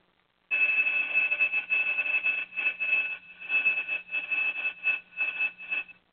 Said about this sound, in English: School bells are ringing. So you know it's time for school. Time for school. Yes, yes, time for school.